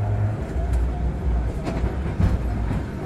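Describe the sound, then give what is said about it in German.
A train rolls steadily along the tracks with a heavy, continuous rumble, punctuated by a few sharp rhythmic clacks as the wheels cross rail joints. “Und baute deshalb Anfang der 1840er Jahre einen elektrischen Zug, der dann auch entsprechend patentiert wurde.”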